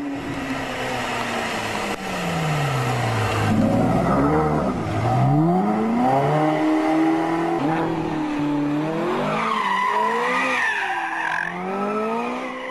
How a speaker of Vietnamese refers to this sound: Chiều nay, lúc gần kết thúc buổi lạy, thật ra là buổi lạy chót trong ngày, vừa lúc tôi nhìn lên, thấy có chiếc xe nâu đỏ sậm Mercury đang tống ga chạy ao về phía chúng tôi.